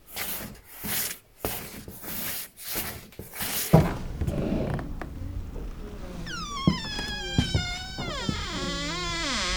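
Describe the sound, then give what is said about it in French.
A door is worked open and shut: a series of rough scraping rubs, then a long wavering creak of hinges that rises and bends in pitch. No one speaks. “J'ai l'impression que j'ai pris le tour de main pour la porte.”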